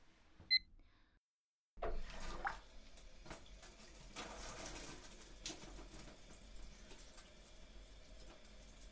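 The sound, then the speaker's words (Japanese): A faint click from a shower handle, a brief pause, then water bursts on and runs in a steady hiss as the hot water temperature is adjusted before a shower. No voices. “お湯の調節したからシャワー浴びていいよ。”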